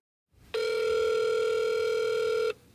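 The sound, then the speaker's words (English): A single steady electronic ring tone from a telephone line, buzzy and sustained for about two seconds, then cutting off into a faint hiss. No one speaks. “Every single person I reached over the phone was polite”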